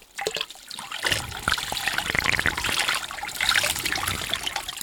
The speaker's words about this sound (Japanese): 少しお耳の周りをお湯で流しておきますね。